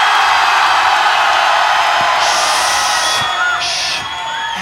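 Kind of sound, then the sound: crowd, crowd cheering and screaming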